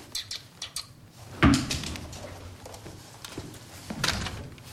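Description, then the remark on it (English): A cupboard stacked with tools and guns is opened and shut: light clicks and rattles first, then a solid wooden thump, followed by quieter handling noises and another knock near the end. “He opens a cupboard stacked with tools and guns.”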